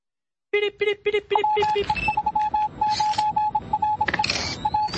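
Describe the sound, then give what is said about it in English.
A steady run of high-pitched beeps of real Morse code, short dots and longer dashes, plays over a busy musical bed, after a few lower, buzzy tone pulses at the start. “You know, those beeps actually say something. That's real Morse code you're hearing there.”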